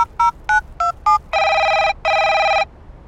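phone ringing

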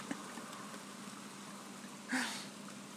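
heavy rain falling outside

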